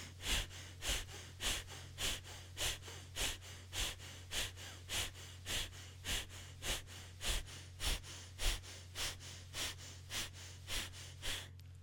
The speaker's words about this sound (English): And we'll do this two more times. So here's the first one, power breathing.